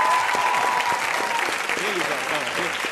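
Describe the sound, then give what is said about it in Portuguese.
An audience of young people claps steadily for a professor for a few seconds, a dense, sustained wash of applause with some voices faintly mixed in. “Garotada, aplaude o professor que ele merece.”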